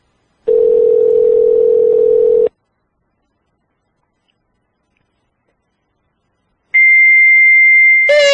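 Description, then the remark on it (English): A steady, low electronic ringback tone sounds for about two seconds on an outgoing call, followed by a silent pause, then a sharper, higher-pitched electronic tone starts up near the end. “Give it a few more rings here.”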